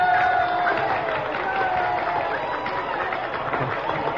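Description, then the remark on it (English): A theater audience cheers and applauds steadily for President John Adams, seated in a box. It is a dense roar of clapping and voices holding at an even, loud level throughout, with a few brief tonal whistles near the start. “Oh, Abigail, they're cheering me.”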